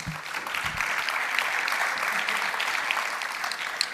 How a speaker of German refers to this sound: Herzlich willkommen. Großen Applaus.